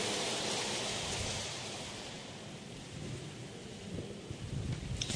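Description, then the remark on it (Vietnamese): A steady burst of applause from Buddhist practitioners before a Dharma teacher's talk, a dense crackling wash of many hands clapping that holds loud and even for several seconds, swelling slightly toward the end, with no voices over it. “Xin tác giả và quý hành giả dành tràng vỗ tay để lắng nghe sự chia sẻ”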